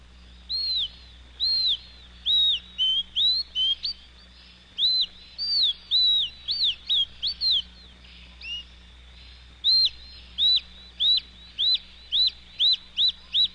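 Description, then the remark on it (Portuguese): A hummingbird's song played slowed down: bursts of repeated, arching whistled notes in a steady rhythm, with a brief pause midway, heard alone over a faint low hum. “E agora, o outro beija-flor.”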